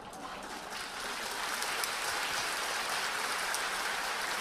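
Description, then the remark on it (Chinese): Sustained applause from a large audience welcoming a Buddhist monk to give a talk, a dense steady wash of clapping that swells slightly after the first second and stays loud throughout, with no speech. “哎，一听头先嗰啲掌声就知道受过专业训练噶啦，系咪？”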